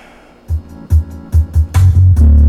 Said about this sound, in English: I'll pull something up right quick, just because I can. MP3. Let's see. Something with a lot of bass in it. How about this beautiful track?